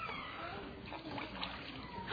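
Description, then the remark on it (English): Water sloshes and splashes gently in a baptismal pool during a child's baptism, a continuous soft churning with small splatters, fairly quiet and steady throughout. “Now, see, there's water down here.”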